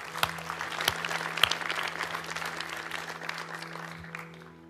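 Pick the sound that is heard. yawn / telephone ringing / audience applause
audience applause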